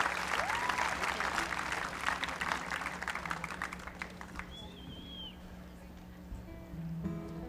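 An audience claps loudly for a performer who sang and played the fiddle and a donkey jawbone, in a dense, steady burst that thins out and fades after a few seconds, leaving a low hum and a brief high whistle-like tone.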